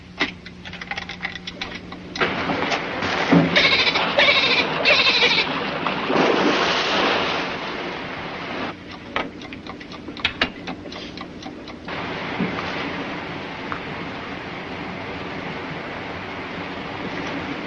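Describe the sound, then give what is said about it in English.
Developer chemical is poured steadily into a film developing tank for several seconds with a gurgling, splashing rush, followed by a run of quick mechanical clicks and quiet handling noise. No one speaks. “All right, pour in the developer and set the timer for 5 minutes.”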